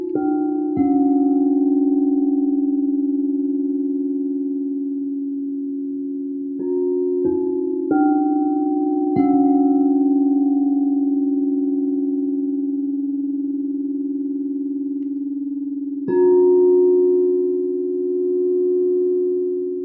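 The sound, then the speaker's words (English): Singing bowls ring out in long, steady, humming tones, struck again several times so new layers of shimmering resonance join the sustained drone, with no voices. “Allow it now to vanish into the sound of the bulls.”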